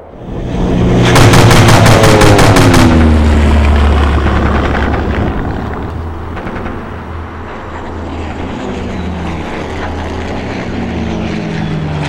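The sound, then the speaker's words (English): A propeller seaplane drones loudly during a dogfight as a burst of rapid machine-gun fire rattles out, followed by sporadic shots while the engine keeps roaring, with no talking. “That meant protecting convoys, or attacking other seaplane mercenaries, and sometimes, both.”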